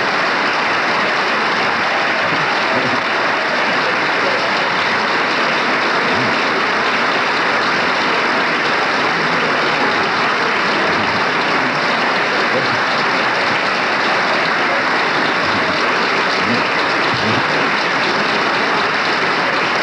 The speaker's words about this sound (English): Of Gerald Ford's colleagues are on their feet applauding, and obviously that reference was to the minority leader, Gerald Ford.